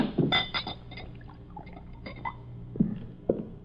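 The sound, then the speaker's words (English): A drink is poured into a glass, with a trickle of liquid and a few light glassy clinks scattered through a few quiet seconds, no voices. “Pour this down.”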